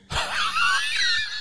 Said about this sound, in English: And I really appreciate the gasp. That was good.